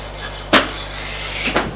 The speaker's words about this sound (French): Sonné à sa porte. La porte s'ouvre et le fait entrer.